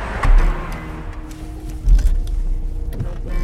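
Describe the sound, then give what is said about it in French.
Inside a family car, a low steady rumble runs under a couple of soft thumps, creaks and small mechanical clicks as people shift and settle into their seats; no one speaks. “Vas-y, c'est une voiture familiale, c'est pas bien.”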